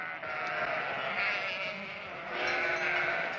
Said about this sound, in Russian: Печально блеявшее стадо сразу застопорило все уличное движение.